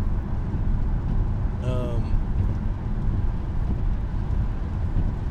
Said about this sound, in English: The rain has started to subside a little bit.